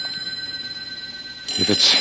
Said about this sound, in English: Your phone. Right there on the desk. You mean this one? It's got to be. Yes, it's the only phone in the room. But we're just imagining it, huh? Pick it up and find out. It sounds like a phone.